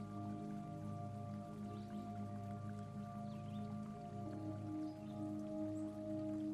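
water trickling

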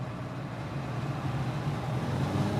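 car engine

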